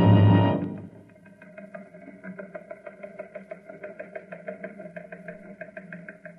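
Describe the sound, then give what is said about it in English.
A recon car's engine runs steadily with a rhythmic, knocking pulse and a low droning hum, following a brief louder burst at the very start. “I'm on my way in a recon car.”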